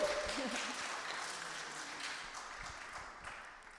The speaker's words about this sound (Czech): A ano, to si zaslouží potlesk.